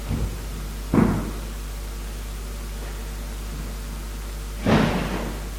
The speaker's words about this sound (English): I'm just going to pull that door up. There we go.